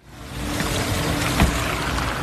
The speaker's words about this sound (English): Luxury German cars pulling away from the entrance of the elegant Bayer-Ischerhof Hotel here in Munich as this conference comes to a close. It's snowing and there's a chill in the air.